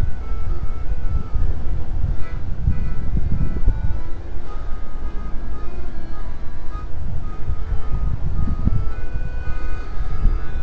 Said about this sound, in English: Hopefully you guys can hear this. There's somebody on the top floor playing an accordion.